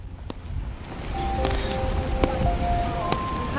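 rain falling outdoors

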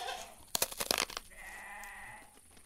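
goats bleating

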